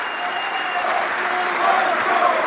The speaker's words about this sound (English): They're saying, run, Joe, run. You can hear them cheering.